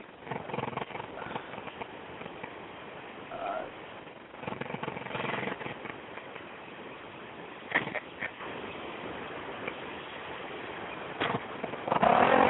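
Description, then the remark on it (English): A motorcycle engine runs outdoors with a rough, sputtering rumble as someone works on the bike, holding fairly steady with several louder revving bursts, the last one near the end. “Hey, what you doing, riding motorcycles? Playing with some old damn remote control cars. No, I'm outside. I'm outside sitting on my shit. Fucking with the bike.”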